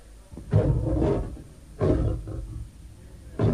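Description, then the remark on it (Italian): Several deep, rumbling lion roars in quick succession, loud, each swelling and fading before the next one starts, with no talking. “Allora Dario, suo malgrado, diede l'ordine di gettare Daniele nella fossa dei leoni.”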